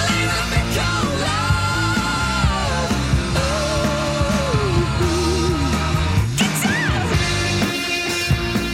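A loud, full-band rock song plays, with a high singing voice that shouts "Guitar!" before the electric guitar takes over with a bending lead.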